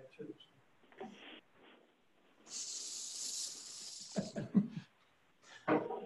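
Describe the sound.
A hair spray can lets out one steady, bright aerosol hiss lasting about a second and a half, with people talking briefly before and after it at a council meeting.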